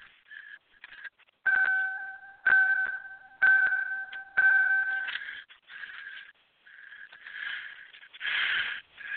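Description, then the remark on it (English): A car's ignition warning chime, set off by turning the ignition on, dings four times at a steady pace, each a clear mid-pitched electronic tone, over a scratchy, fluttering background noise that continues after the chimes stop. “No, that was my car ding, and I had to turn the ignition on.”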